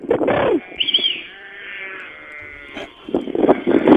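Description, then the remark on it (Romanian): A shepherd's sheep bleating in loud, wavering cries that open and close the stretch, with a quieter, drawn-out bleat in between; several animals seem to call over one another. “Ia uzi, oițele.”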